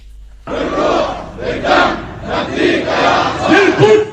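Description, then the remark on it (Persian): A large crowd of Lebanese people and Palestinian refugees at a rally in Beirut's southern suburb chants loudly in support of the Palestinian people, in rhythmic, surging waves of shouted slogans, many voices rising and falling together in a steady cadence. “فریاد حمایت از مردم فلسطین در زاویه جنوبی بیروت، جمعی از لبنانی ها و آوارگان فلسطینی ساکن این کشور در تجمعی ضمن محکومیت جنایات رژیم صهیونیستی به ویژه در باریکه غزه مقاومت را تنها راه آزادی اراضی اشغالی دانستند.”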